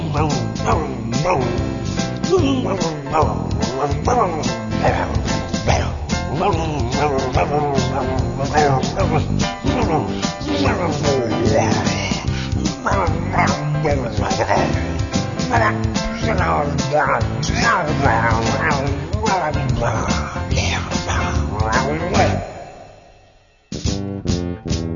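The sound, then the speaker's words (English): A person imitates a wolf growl, a loud, rough snarling voice that rolls on almost without pause for over twenty seconds before cutting off abruptly. “Then, you just growl. Like this.”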